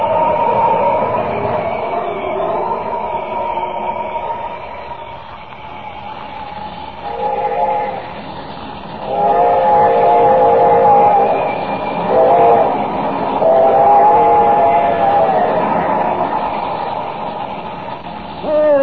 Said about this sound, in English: Have I time, I wonder? Can I reach that bridge before the train does? Well, this is another job for Superman.